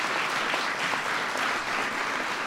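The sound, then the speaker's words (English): A crowd breaks into steady applause for members of Congress who are Lakers fans, a dense wash of many hands clapping at an even, fairly loud level with no voices standing out. “Please, everybody, give them a big round of applause.”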